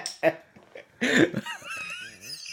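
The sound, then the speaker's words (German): A short cough, then a louder, harsher cough a moment later, followed by a bit of voiced talking. “War aber Hust.”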